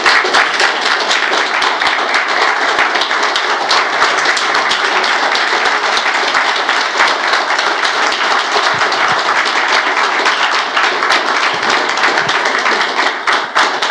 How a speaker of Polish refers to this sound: Dajmy mu gorąco klaski.